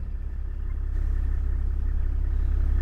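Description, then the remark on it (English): A car engine drones steadily while driving through tall, thick Kalahari sour grass that envelops the car, with a deep, continuous low rumble and a faint hiss above it. It grows slightly louder partway through, and no one speaks. “We're driving through this really tall, thick grass that kind of enveloped the car.”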